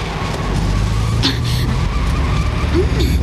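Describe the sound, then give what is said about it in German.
A car with failing brakes speeds along, its engine roaring steadily and loud, with a brief sharp squeal partway through and low rumbling throughout. “Sie fahren zu schnell. Ist etwas mit den Bremsen?”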